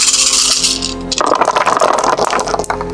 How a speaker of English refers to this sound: That's a lot of 3s. It's a very average roll. But you're rolling 12 dice, so I mean, I think you got it.